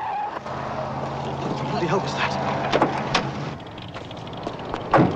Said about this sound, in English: A tyre blows on Jack's car.